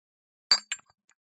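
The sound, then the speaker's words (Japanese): Two bright glass clinks in quick succession, clear, glasses of alcohol touched together in a toast, each with a short ringing tail, followed by a faint tap and silence. “とにかく、乾杯しようか。”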